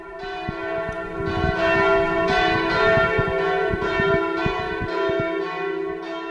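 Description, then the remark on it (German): Church bells of the Protestant Christuskirche in Westerholt-Bertlich, a 1934 church building, peal continuously, calling to service for the last time before the church is deconsecrated, several bells overlapping in a full, resonant ringing with repeated strikes and a sustained hum, loud with no voices. “Zum unwiderruflich letzten Mal lädt dieses Glockengeläut zum Gottesdienst ein.”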